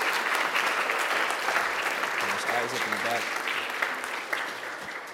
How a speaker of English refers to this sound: So if you're on the school board, go ahead and stand up and let's clap for those people as well. This is volunteer work right here.